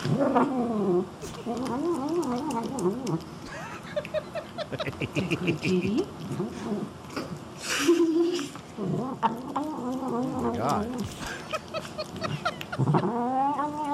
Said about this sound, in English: I know that dogs love corn on the cob. This is the first time I've ever seen a cat eat corn on the cob. And this cat likes it so bad, the cat says yum. I throw you now to a cat eating corn on the cob.